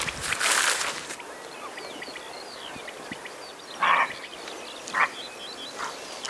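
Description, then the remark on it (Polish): A slightly alarmed roe deer gives several harsh, hoarse barks outdoors as it runs off, one longer call at the start and then short isolated barks a second or so apart, with faint birdsong in the background. “A tam jest sarna. Poszczekuje. Tak, to charakterystyczny głos sarny.”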